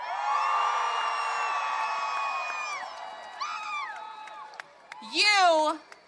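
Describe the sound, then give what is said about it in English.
A crowd at a pro-life gathering, those aged 30 or younger, cheers and yells in a sustained roar for about three seconds, then fades to scattered shouts before one loud, rising whoop rings out near the end. “Who in the crowd is 30 years of age or younger? Make some noise.”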